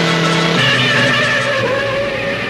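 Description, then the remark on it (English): Loud, continuous tire screeching as a convertible and a sedan speeding toward each other swerve and skid into a house's driveway, the squeal shifting pitch partway through and holding strong to the end, with no voices. “Bruce's convertible and Zach's sedan speed toward each other. They swerve and skid into Jenny's driveway.”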